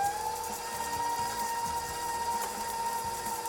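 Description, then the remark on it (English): An electric mixer with a paddle attachment beats a batter until light and fluffy, running at a steady medium speed, a continuous motor whine holding one pitch with a busy, rattling churn beneath it, no voices, unbroken for the whole stretch. “I'm gonna start out on low speed just to get everything combined and then crank it up to medium so we can get some light and fluffy business going on.”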